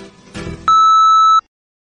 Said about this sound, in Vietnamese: Xin quý khách vui lòng để lại một lời nhắn sau tiếng bíp.